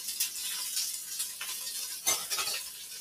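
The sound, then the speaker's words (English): Onions sizzle steadily in hot oil, a continuous hissing crackle broken by a few brief scrapes and clatters of stirring with a spatula. No one speaks. “Yes, that is the sound we're looking for, that angry cat kind of sizzle sound.”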